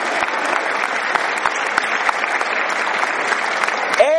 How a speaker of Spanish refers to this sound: Y quizás algunos de estos muchachos o muchachas que están trabajando en el ejército de Jesús, ahí dice Jesus Army, wow, that's amazing. Y ve cómo se aplauden entre ellos, ¿no?